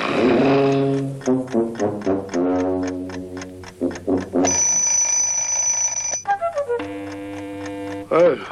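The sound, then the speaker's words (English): An alarm clock set for 4:30 rings in a sustained, loud burst for a couple of seconds, set among tuneful, voice-like tones and steady notes before and after. “Four thirty? Who set the alarm at 4:30?”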